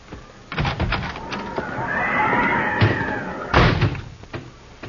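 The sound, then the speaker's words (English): A horse whinnies in a long rising-then-falling cry, mixed with several heavy thumps and door-like bangs. No one speaks. “And the horse will freeze if you don't.”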